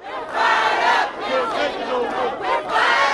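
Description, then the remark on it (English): A large crowd of state workers and others, rallying outside the state capitol in anger over expected delays, shouts together in loud, sustained bursts, voices rising and falling in several swelling waves with brief dips between them. “State workers and others angry about the expected delays rallied outside the state capitol last week.”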